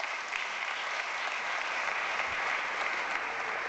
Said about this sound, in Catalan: Aplaudiments, doncs, per aquesta presentació d'Antoni Pinilla.